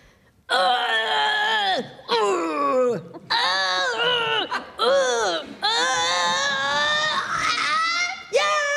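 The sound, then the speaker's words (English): A person vocally imitates straining to move a sofa, conveying a prompt written on a piece of paper in a guessing game using only sounds, no words: a string of loud, wordless groans and whining wails, pitch bending and sliding, in about five long bursts with short breaths between. “Was it me and my boyfriend moving a sofa last week? Oh, I'm glad you had it moving a sofa.”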